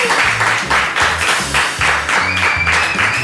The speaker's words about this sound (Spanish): Que haya paz y un aplauso para la paz. Un fuerte aplauso para la paz, por favor.